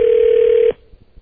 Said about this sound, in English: I'm getting dial tone up.